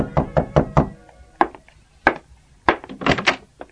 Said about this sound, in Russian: Скоро бедняки стали все чаще стучаться в двери к Мюллерам и просить о помощи. Потом начали стучать и соседи.